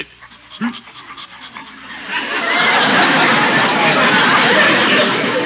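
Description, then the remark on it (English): A large dog pants heavily, its quick breaths starting in short bursts and then swelling into a loud, steady, rapid huffing. “What a big dog.”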